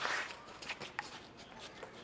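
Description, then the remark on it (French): High-heeled shoes click on the pavement of the Place des Orphelins, a square free of traffic noise, in a few sharp, uneven taps, fairly quiet, over a soft outdoor background hum. “Cet îlot fait aujourd'hui place aux escarpins qui claquent”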